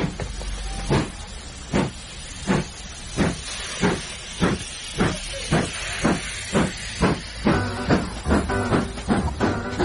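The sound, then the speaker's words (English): A steam locomotive hisses and chuffs as it pulls away, its rhythmic puffs of steam repeating steadily and quickening slightly over a continuous background hiss. No one speaks. “All aboard.”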